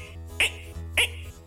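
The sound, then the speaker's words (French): A voice imitates a frog croaking, making two short, raspy croaks about half a second apart over a low steady hum. “Et même de temps à autre, on entend certes une grenouille qui font...”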